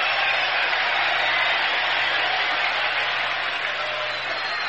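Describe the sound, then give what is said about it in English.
A baseball crowd hoots and hollers at its slumping first-place home team during a game against the Cardinals, in a dense, unbroken roar that stays loud and steady throughout, with no one speaking over it and a faint low hum underneath. “And this crowd is hooting and hollering.”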